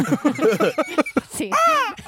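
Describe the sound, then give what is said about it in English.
A brief stretch of voices gives way to a single loud, harsh squawk from a big bird, strongly pitched, rising then falling over about half a second. “What is that? Is it calling for backup? Yes.”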